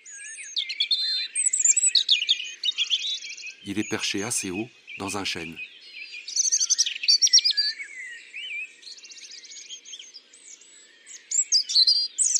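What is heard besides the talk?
european robin singing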